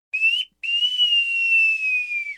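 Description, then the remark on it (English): A clear, shrill whistle call signalling the maneuver of turn two, in two parts: a short rising note, a brief pause, then a long sustained tone that slowly falls in pitch, resembling a wolf whistle. No talking. “Though there is one of them that does resemble that classic wolf whistle sound that we heard Humphrey Bogart do.”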